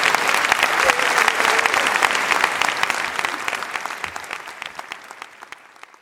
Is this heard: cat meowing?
no